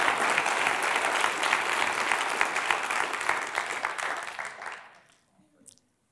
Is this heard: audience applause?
yes